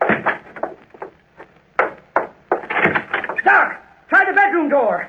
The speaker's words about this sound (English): Door.